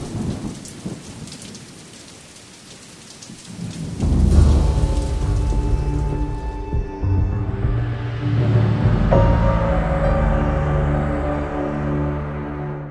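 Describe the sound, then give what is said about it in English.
Steady hissing rain falls, heard from inside a motel room, then a deep, rolling rumble of distant thunder swells in and lingers beneath the downpour, with no voices. “I sat on the bed and wept, feeling utterly alone in the motel room, listening for his voice, but hearing only the sounds of the rain and the distant thunder.”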